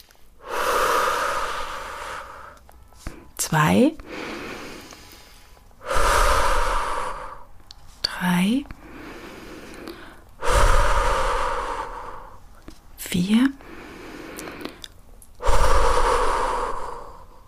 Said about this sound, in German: Das können wir gerne mal zusammen machen, vielleicht hört man das auch, unser Geschnaufe, dann wird es vielleicht klarer. Also wir atmen ein, 1.